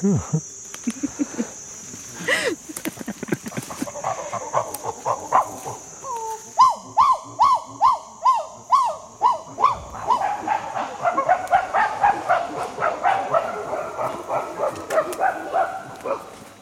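A chimpanzee on the ground gives a long, rhythmic run of breathy greeting grunts showing respect to the dominant male, speeding up and growing louder, while a steady high insect drone hums in the background.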